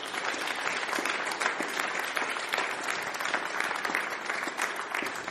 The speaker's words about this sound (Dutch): Dankzij Luc en Ido. Geef ze een applaus.